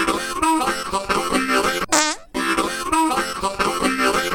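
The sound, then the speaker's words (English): A short, buzzy fart sound effect with a wobbling pitch cuts in midway through a loud, busy musical jingle, splitting the music into two halves. “But this one does have a theme song, kind of. I'll go ahead and hit it.”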